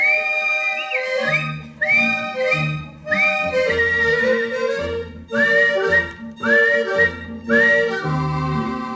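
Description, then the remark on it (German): A person whistles a bright, repeating tune in short rising phrases over steady instrumental accompaniment, the whistling clear and prominent throughout with no talking. “Ja, so pfeifen gern die Eltern, Herrn, zeigt am Himmel sich der erste Stern.”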